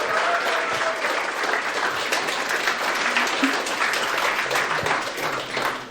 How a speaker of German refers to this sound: Vielen, vielen Dank. Riesigen Applaus für unsere MentorInnen.